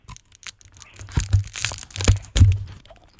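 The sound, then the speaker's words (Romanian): Crisp crunching as someone bites into a hard-coated ice cream bar with chocolate cream, taken from an ice cream freezer at a radio station, with several crackling bites and chewing crunches over a few seconds and no talking. “Nu, fii atent, hai să mușcăm din înghețată împreună.”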